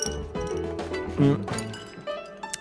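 Glass clinks a few times as cold apple juice is poured, with the gurgle of liquid filling the glass and a couple of sharper taps near the end, moderately loud with no talking.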